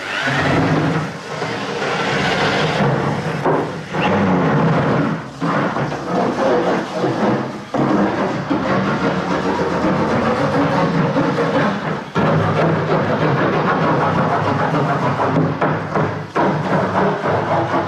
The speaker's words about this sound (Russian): Вот так может звучать тонкий сосновый пласт.